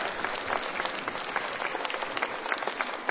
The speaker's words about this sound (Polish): Słuchajcie, wielkie oklaski dla naszych talentów. Wspaniale.